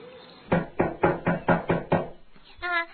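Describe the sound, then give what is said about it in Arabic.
A series of seven firm, evenly spaced knocks on the wooden door of a cat's house, knocked by a rabbit arriving with a frog, clear, followed by a brief pause and a short tonal sound at the end. “وهكذا يا أحبائي وصل الأرنب والضفدع إلى بيت القطة وطرق الباب.”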